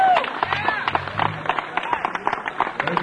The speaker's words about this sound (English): I'd like to ask for a big round of applause, my dear friend,